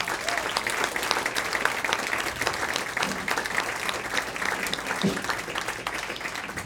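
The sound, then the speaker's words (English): A crowd claps steadily and loudly for songwriters, a dense, continuous wash of many hands applauding at an even level for several seconds without pause. “So how about one more round of applause for all of our songwriters?”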